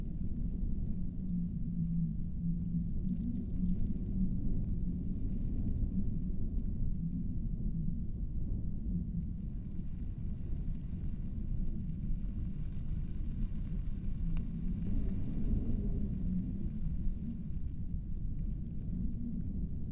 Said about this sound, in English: Safe and secure. From the storm outside.